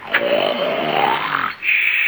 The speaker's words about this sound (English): As soon as you start a snoring, you play a tune.